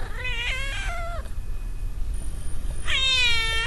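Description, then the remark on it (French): A cat meows twice, with a pause of about two seconds between the drawn-out, wavering calls. It sounds clear over a low background rumble, and no one speaks. “J'aime bien écouter le mâlement du chat.”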